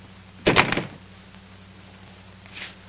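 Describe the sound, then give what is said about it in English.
A door swings shut with a single solid, slightly rattling thud as a woman strides briskly out, followed by a low steady hum and a faint soft knock near the end. “David watches Alice stride briskly out the door.”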